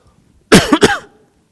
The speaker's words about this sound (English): Excuse me, I'm sorry for my cough.